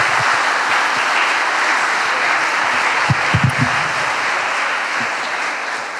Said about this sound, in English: Okay, thank you very much, gentlemen, for your keynote and please round of applause.